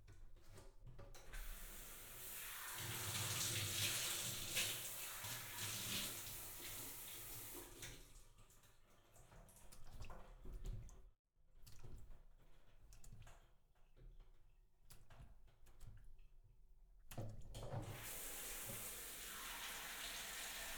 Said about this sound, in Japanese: シャワーで軽くお流しします。